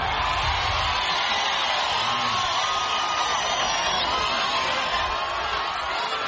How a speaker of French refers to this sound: À chaque gare, une foule enthousiaste attendait le président Kenyatta qui leur a promis la prospérité.